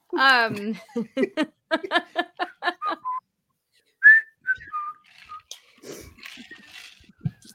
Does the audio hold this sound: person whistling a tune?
yes